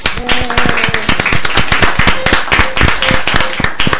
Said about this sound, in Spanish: Un aplauso para él.